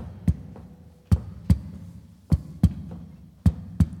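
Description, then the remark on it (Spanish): A heartbeat thumps steadily in dull lub-dub pairs repeating about once a second over a low, soft hum, with no voices present. “solo escuchaba el silbido de las balas y el ruido del latido de su propio corazón.”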